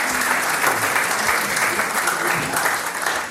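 Steady applause from an audience at a singers' and musicians' gathering, welcoming a guest who travelled from Hamburg with his wife: a dense, even patter of many hands clapping at a constant loudness throughout, with no voices standing out.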